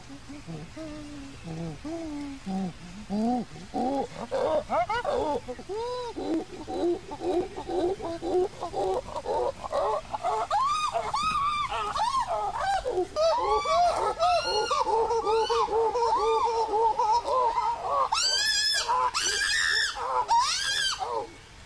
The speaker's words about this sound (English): When people think of a chimpanzee sound, it is usually the characteristic pant hoot. This call has a build-up, climax, and a letdown, designed as a way to let all the other chimps in the area know where you are.